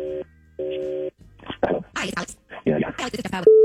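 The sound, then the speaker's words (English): Two steady touch-tone dialing beeps, one short and one longer, sound in quick succession as a phone call is dialed for the War of the Roses segment, followed by a burst of muffled, indistinct voices talking. “Let's make the phone call right now.”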